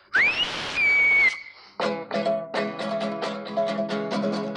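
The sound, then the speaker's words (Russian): A loud, piercing whistle rises sharply in pitch and holds steady for about a second, cutting off abruptly before a run of bright, rhythmic musical notes takes over. “Душный забором свист, рушит заборы свист. Слушай, разбойный свист”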